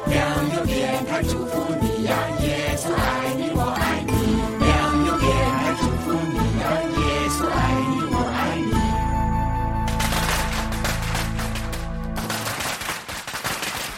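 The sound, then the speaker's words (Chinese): A long string of firecrackers pops in rapid, dense bursts during the Chinese Spring Festival, on the third day of the New Year, loud throughout, before giving way to a bright, ringing musical jingle near the end. “能够呢听到鞭炮的声音，是来自五的空间的鞭炮声。”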